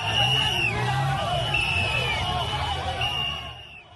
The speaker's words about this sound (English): Hundreds of fans applaud in Yaoundé as the national women's volleyball team of Kenya lifts gold for the 10th time as women's African volleyball champions.